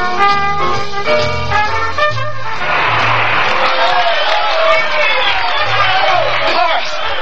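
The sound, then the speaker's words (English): A concert audience bursts into loud, sustained applause and cheering, with scattered whoops, right after a few seconds of sustained musical notes end. “Can you hear that applause? Can you hear them all through the concert?”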